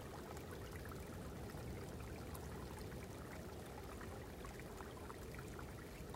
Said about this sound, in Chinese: 不远处，一条小溪不畏严寒，依然欢快地流淌。